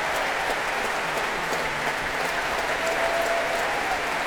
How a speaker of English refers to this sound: And applause now for the horns, the trumpets, the whole brass section on their feet. All the winds too.